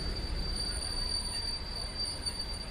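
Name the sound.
train running on tracks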